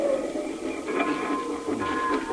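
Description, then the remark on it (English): A train engine pulling a single coach comes around a mountain, rumbling steadily with a mechanical clatter and a sustained whine. The noise is fairly loud and continuous, with no voices. “You know, this is something to see, an engine train pulling one coach.”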